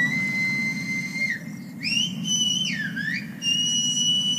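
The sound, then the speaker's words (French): A loud, clear human whistle in the whistled language of the Canary Islands, holding long steady tones broken by rising and falling glides, with a brief pause partway through, against a low background rumble. “Et le dossier qui m'avait le plus marqué avait été celui sur les langues sifflées des îles Canaries.”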